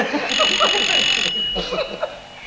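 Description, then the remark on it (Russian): A mobile phone rings with a shrill, buzzing electronic tone, loud for about a second and then fainter and steadier, with some murmuring voices faintly underneath. “А, это ж телефон.”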